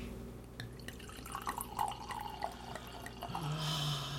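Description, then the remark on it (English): Wine glugs and splashes into a glass, a steady trickling pour with a bubbling, rising tone as the glass fills, no voices present. “All right, let's pour this baby.”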